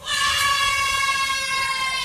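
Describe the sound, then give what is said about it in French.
The front row of an audience at a live radio broadcast shouts together in one loud, sustained, high-pitched yell that holds steady for about two seconds. “Allez, juste on peut faire crier le premier rang, juste pour voir le premier rang, ce que ça donne, crier le premier rang?”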